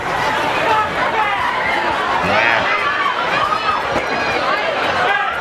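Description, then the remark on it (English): A dense, loud crowd of Black Friday shoppers waiting before the store doors open roars, many voices blending into an excited, overlapping babble that stays steady, with no single speaker standing out. “This was before the doors open, and you're going to hear the crowd crescendo and a security guard yelling at people to calm down as we go about.”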